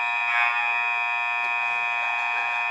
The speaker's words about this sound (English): And now the clock's broken. We have a buzzer issue. And it's fixed.